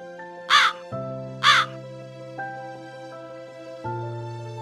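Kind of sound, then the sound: bird, crow cawing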